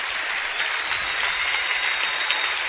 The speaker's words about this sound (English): Getting a standing ovation from the crowd here.